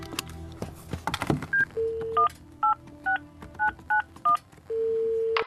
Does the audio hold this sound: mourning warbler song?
no